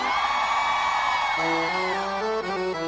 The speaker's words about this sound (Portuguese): é forrozeiro, dá um gritão pra mim aí.